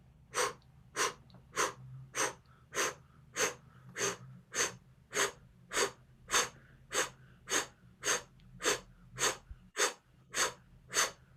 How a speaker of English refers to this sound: Now we're just going to start the blow breath. Breathing through the diaphragm, just out.